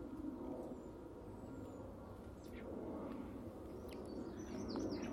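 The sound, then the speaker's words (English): Faint, scattered bird chirps and calls sound over a steady, rumbling outdoor background, with a few brief high notes near the end. “Different kind of bird.”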